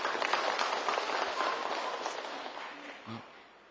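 An audience applauds in a dense, steady wash of clapping that gradually thins and fades over a few seconds, with a brief voice surfacing near the end.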